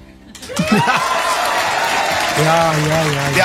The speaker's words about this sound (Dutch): Wij klappen ook mee. Ja, hè? Wij klappen met het publiek van Makkelijk Scoren, het televisieprogramma van de VPRO.